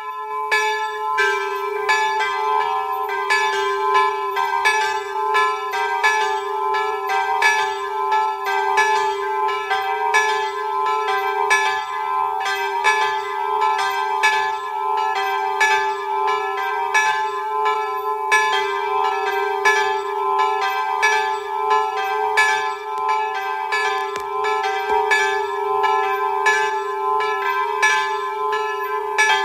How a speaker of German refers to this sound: Es ist 12 Uhr. Sie hören die Glocken der St. Petruskapelle in Kaunerberg-Brantach in Tirol.